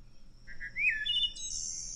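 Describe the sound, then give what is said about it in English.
A wood thrush song is played back from a bird app through a phone's small speaker over a faint low hum: a short, fluting phrase of two low whistled notes, a rising slurred note, then a high buzzy trill. “Is that the wood thrush?”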